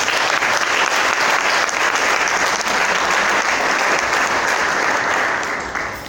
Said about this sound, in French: On applaudit pour cette femme.